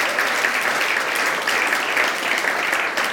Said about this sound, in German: And will you clap for her? Hört ihr auch einen Applaus?